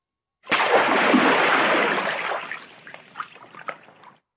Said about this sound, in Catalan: Quan ens decidim per creuar un pont, tot just l'estem creuant, que sentim que el pont desapareix i caiem a l'aigua.